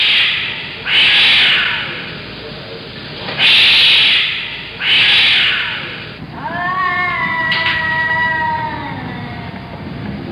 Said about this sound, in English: And every night at 3 a.m., there are cats.